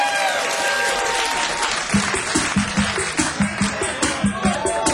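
Loud, dense audience applause for a band at a live show, a steady wash of many hands clapping that settles into a rhythmic, roughly even beat about halfway through.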